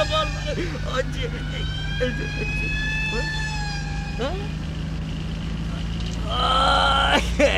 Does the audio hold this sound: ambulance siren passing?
yes